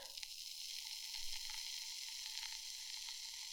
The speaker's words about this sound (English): Oh yeah. Oh yeah, it's that beer fizz.